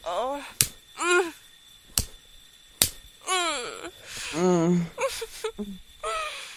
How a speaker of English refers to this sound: I want you to slap your face a few times as well.